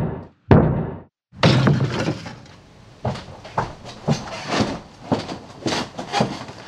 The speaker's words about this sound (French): Ouvrez ! Police ! Ouvrez-vous, on enfonce la porte ! Allez-y, messieurs, faites-moi sauter cette porte !